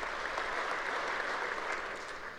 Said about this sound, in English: Take the applause now. Later in the session, it'll be yelling.